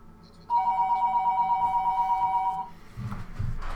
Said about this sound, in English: I always get busted for my phone ringing.